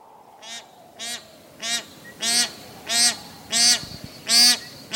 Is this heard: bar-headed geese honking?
yes